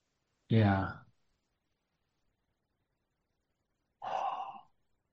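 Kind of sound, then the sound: human body sound, yawn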